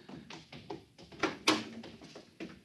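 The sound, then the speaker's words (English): The heavy door of a control room is shut and barred: a run of wooden clunks and knocks, with two louder, sharper thuds close together in the middle, with no voices. “Now, help me close the door. Now the bar.”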